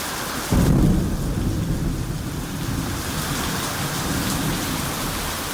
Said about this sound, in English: The idea for this special episode was actually born during the rainy season when thunderstorms, unlike I've ever experienced, hit us almost every day and sometimes left the entire place flooded.